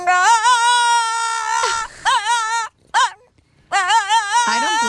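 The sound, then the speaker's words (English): A dog whimpers and whines loudly, in several long, wavering high-pitched bursts separated by brief pauses, with no talking. “Your dog.”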